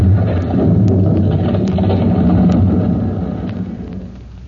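A heavy, sustained rumbling roar of a fire-gutted building's interior collapsing, dotted with sharp clattering impacts of falling debris, slowly dying away over the last second.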